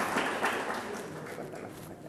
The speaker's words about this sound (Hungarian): Kérünk szépen neki egy tapsot.